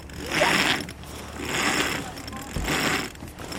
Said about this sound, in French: Donc vous, ce que vous allez faire, après vous allez hisser la voile. Ouais. Ok. Tirer. Du coup, vous allez tirer, vous voyez.